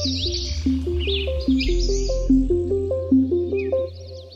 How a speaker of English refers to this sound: I remember going for a bike ride right after the beginning of the lockdown and just marveling with a friend at how much you could hear. There's birds everywhere. The city is just filled with the sound of birds now.